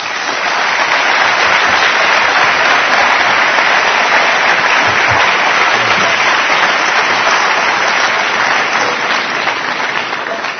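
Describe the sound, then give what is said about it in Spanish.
Sustained audience applause at the 25th anniversary celebration of Gaia, welcoming Gaia president Norberto Santiago Elustondo: a dense, even wash of many hands clapping at steady loudness throughout, with no voices rising above it. “Un aplauso.”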